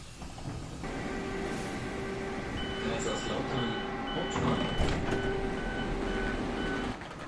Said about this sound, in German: Stattdessen sitze ich eine Woche später im Zug nach Kaiserslautern.